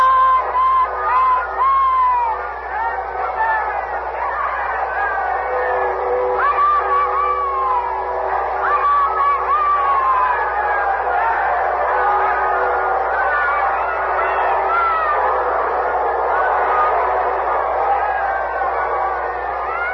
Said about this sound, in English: The people are crushing against the gates of the castle, shouting for a view of Queen Elizabeth.